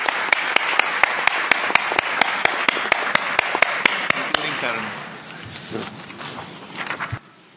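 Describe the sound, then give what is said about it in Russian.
Loud, stormy applause from a crowd welcoming the members of the executive committee, with sharp claps beating in a steady rhythm through the din, then thinning out and dying away into faint murmuring. “Бурными аплодисментами приветствуем членов исполнительного комитета.”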